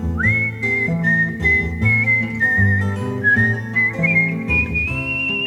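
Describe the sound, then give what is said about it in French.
A girl's high, steady whistled melody in a French song carries clearly over a full instrumental backing, holding long notes and sliding gently up toward the end, with no talking. “Mais qu'as-tu donc, ma fille, à siffler, siffler ainsi?”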